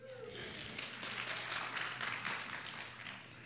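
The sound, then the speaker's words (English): A brief burst of audience applause during a sermon, many hands clapping in a dense, steady patter for a few seconds, moderately loud. “Round of applause.”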